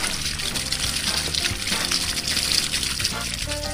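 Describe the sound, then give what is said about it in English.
A steady stream of water pours and splashes continuously for a few seconds as flowers are watered, moderately loud, with some tonal background sound running underneath. “I water the flowers.”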